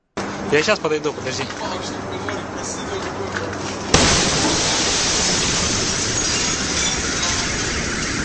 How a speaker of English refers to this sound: It's loud, it broke windows, it smashed doors out. I mean, I've seen some of the shockwave damage, and there's video of the shockwave actually hitting doors and blowing doors off their hinges.